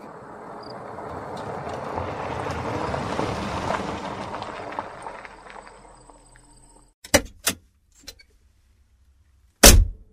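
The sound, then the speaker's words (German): A heavy car's engine starts with a full hum and the car rolls slowly over a driveway toward a house, the low engine noise swelling and then fading over several seconds, followed by a few sharp, separate knocks and thuds. “Mit sattem Brummen startete der Motor und der schwere Wagen rollte langsam über die Zufahrt auf das Haus zu.”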